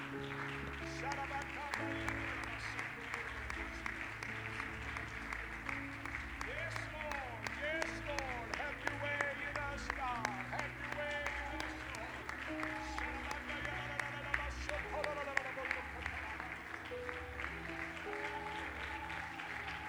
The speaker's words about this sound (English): Why don't we give the Lord a hand clap of praise right now?